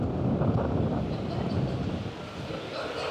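Strong gusts of wind off the nearby ocean buffet the microphone outside a conference center in a coastal city in Colombia's La Guajira region, on a sunny, humid day near 90 degrees, in a continuous low, roaring rumble, loud, swelling and easing slightly over a few seconds with no other distinct sounds.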